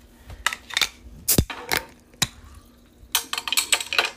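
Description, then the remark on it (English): A bottle cap is pried off with a red luchador wrestler bottle opener: scattered sharp metallic clicks and scrapes, one crisp pop near the middle, then a quick flurry of small clinks, fairly loud. “That's my favorite bottle opener in the world.”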